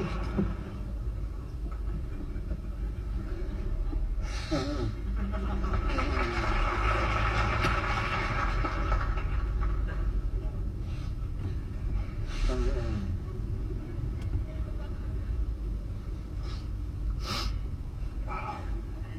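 A person blows their nose in a few short, forceful honking bursts spaced several seconds apart, over a steady low rumbling background like a moving train.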